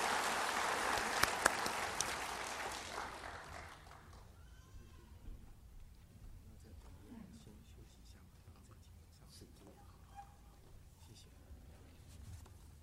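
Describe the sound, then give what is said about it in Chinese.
An audience breaks into dense, crackling applause for seventeen people ready to be baptized, lasting about four seconds, then it fades away, leaving low murmuring voices and soft rustling. “好，荣耀归给神，我们鼓掌哈。”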